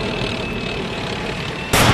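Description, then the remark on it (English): A tank cannon fires at a suicide truck bomb in the Iraqi desert about 30 miles from Mosul, a sudden loud, sharp blast cutting in near the end after a steady low rumble of heavy engines. No one speaks. “A tank fired at a suicide truck bomb before it could wreak its havoc.”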